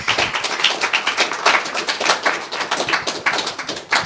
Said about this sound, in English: So please help me welcome them into the store and give them a big round of applause.